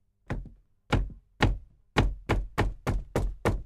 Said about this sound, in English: Visitors to the castle often hear strange noises in that room. They hear knocks at the door.